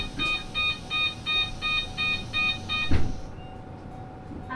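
A bus door warning chime beeps in a steady rapid series of about eight bright tones as the bus door closes at the Edogawa Culture Center stop in Edogawa, Japan, then ends with a soft thump as the door shuts, over low engine rumble.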